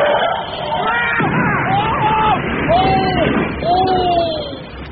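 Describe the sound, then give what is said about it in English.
A bus crashes into a crowd: a loud, dense rumble of impact and commotion, then several drawn-out, wavering cries and yells rising over the chaotic noise. “I say, that almost felt like a real bus.”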